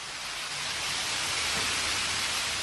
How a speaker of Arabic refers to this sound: تجتاح مياه تهاطلات استثنائية مكاتب الجمعية الوطنية.